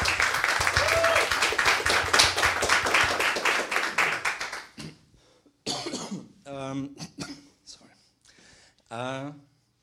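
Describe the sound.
A crowd at an event hosted by the Chaos Computer Club applauds the VOC team steadily with dense, loud clapping for about five seconds, then it fades out and a man begins speaking alone.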